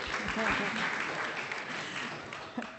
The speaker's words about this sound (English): Give him another clap. I think he wants another clap.